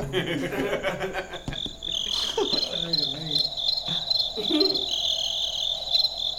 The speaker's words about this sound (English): Hang on, the crickets are back.